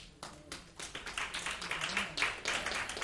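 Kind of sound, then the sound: crowd, audience hand clapping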